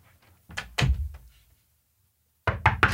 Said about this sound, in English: Tell me if this is a knock or not.